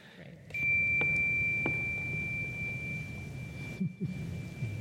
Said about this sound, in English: As you walk through, you walk around or downstairs or outside, just letting you're taking in this beautiful day, taking in the sound of the bell.